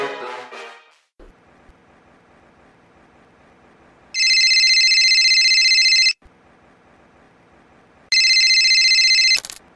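A telephone rings loudly in two long bursts, each about two seconds of bright, buzzing tone separated by a pause, with a faint low hum filling the gaps.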